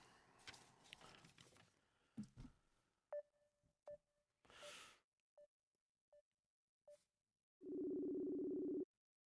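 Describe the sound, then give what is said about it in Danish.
After some rustling and handling noise, a series of short keypad beeps sounds, then a single long, steady ringing tone of an outgoing phone call hums loudly at the end. “Nu ringer jeg.”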